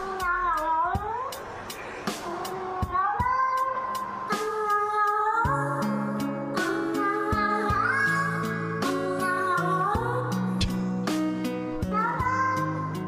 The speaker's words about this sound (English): But anyway, he took this cat and put music to it. I'll play you a little sample of it. Here you go.